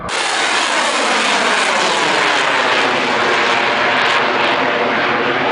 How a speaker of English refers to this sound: Video shared by the Russian Defense Ministry purported to show Iskander ballistic missile systems in action.